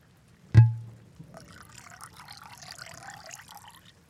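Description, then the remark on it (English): A single sharp clunk, like a bottle or glass being set down, followed by about three seconds of steady, gurgling wine pouring into a glass. No one speaks. “I'm gonna pour myself some wine and see what I can find.”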